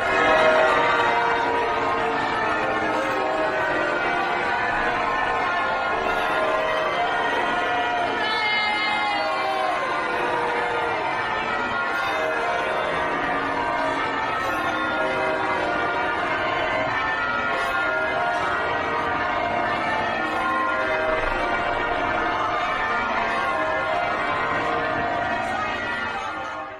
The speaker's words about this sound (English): And today, when they emerged from St. Paul's Cathedral, well, take a listen to this. I've listened to it a couple times. They received a bit of a frosty reception. You can hear some cheers and plenty of booing in the crowd. Listen.